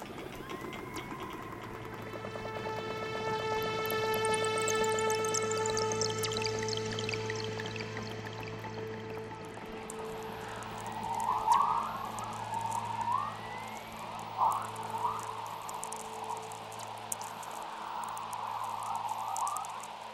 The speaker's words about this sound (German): Mit Hydrophon und Rekorder zeichnet sie gleichzeitig die Klick- und Schnattergeräusche der Orcas auf.